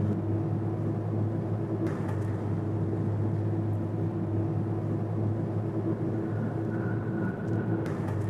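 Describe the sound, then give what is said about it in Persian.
A steady, continuous low engine rumble with a constant hum inside Ardalan's car as Ardalan and Diako ride in it, holding evenly throughout with faint brief clicks and a soft tonal whine near the end. “اردلان و دیاکو سوار ماشین اردلان میشن.”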